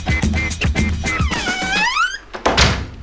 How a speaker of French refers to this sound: tu veux fermer la porte?